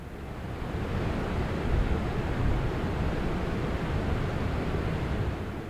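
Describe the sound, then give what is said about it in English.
The Black River thunders down the falls beside the small town of Lyons Falls, on the western edge of the Adirondack Park, in a steady, dense, loud roar that fills the whole clip without letup, with no voices. “Water from the Black River roars as it plunges down the falls beside the little town of Lyons Falls, a small community located on the western edge of the Adirondack Park.”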